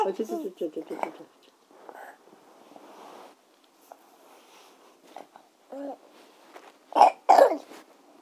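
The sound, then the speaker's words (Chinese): A child coughs twice in quick succession, loud, with a wet, chesty rasp from phlegm, after some quiet murmured talking and soft rustling earlier on. “没有痰啊？啊？咳嗽有痰对吗？”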